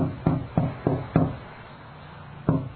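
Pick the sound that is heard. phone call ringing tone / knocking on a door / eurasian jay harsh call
knocking on a door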